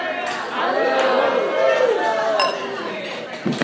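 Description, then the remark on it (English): Glasses clink together in a wedding toast, a few bright, sharp chimes rising over a steady murmur of crowd chatter and overlapping voices. “And let's raise a glass.”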